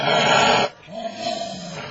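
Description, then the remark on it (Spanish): A dog lets out one loud, harsh bark, then breaks into a lower, rumbling growl that rises and falls for the rest of the moment. No one speaks. “No ladres. La perra afuera.”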